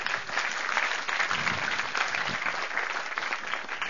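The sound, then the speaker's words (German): Sustained audience applause, a dense wash of many hands clapping at steady volume for a few seconds, with no talking. “Super, okay, Applaus.”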